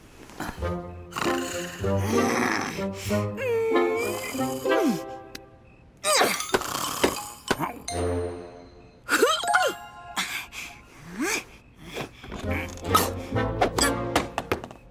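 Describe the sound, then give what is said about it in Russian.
A person snores loudly and theatrically, with repeated rumbling, growl-like snorts and harsh breathy bursts coming in uneven waves, which sound like a voice acting out exaggerated snoring. “Хватит храпеть! Дай поспать хоть немножечко!”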